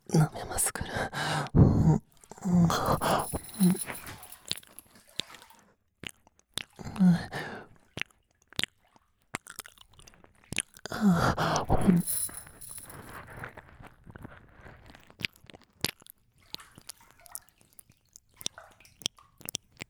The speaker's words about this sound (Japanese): 夢中で舐めてたから、お嬢様のこっちの耳をおろそかにしちゃって。